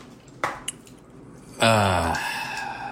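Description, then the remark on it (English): Water is poured off cooked pasta into a sink, a steady rushing splash lasting over a second, preceded by a couple of light clanks from the pot. “But as soon as I drain the water...”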